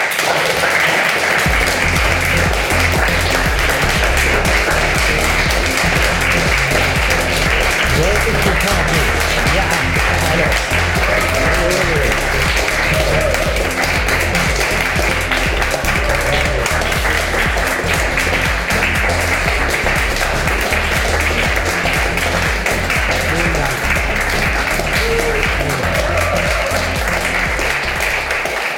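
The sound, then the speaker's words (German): A large audience claps wildly and continuously, a dense, loud roar of applause that holds steady for the whole stretch without pause or any voices standing out. “Haben so wild geklatscht, dass man die Musik kaum gehört ich hat.”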